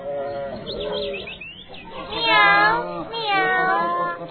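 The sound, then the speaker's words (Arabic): A cat meows several times, fairly loud, with long wavering cries that rise and fall, the strongest ones coming in the second half. “مياو لو فعلا شارك الغراب اللعب معكم مياو فأنا سوف أترك اللعب.”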